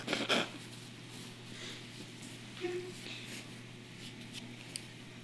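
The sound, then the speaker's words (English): A person blows their nose in a short, forceful burst at the start, followed by a few quieter sniffs and rustles against a low, steady hum. “Blow my nose here.”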